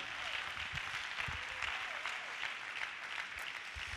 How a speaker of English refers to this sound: And let's take a break and clap the hands to the Lord. Will you do that?